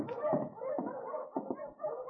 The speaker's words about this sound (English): There's a dog team coming in.